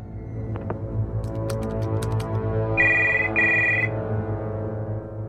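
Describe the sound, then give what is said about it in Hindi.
A telephone rings with an incoming call from the senior clerics (ustad ulama), in two short electronic bursts, bright and steady, over a low continuous hum with a few faint clicks and knocks before it. “ये देखिए उस्ताद उलमा का भी फोन आ गया है।”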